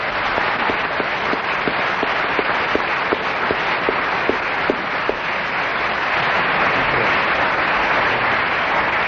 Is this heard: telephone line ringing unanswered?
no